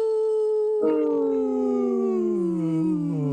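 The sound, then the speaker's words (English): A person imitates a wolf howl: one long sustained tone that starts high and clear, then after a breathy onset slowly slides downward in pitch, loud and steady with no other voices. “The howl, you mean?”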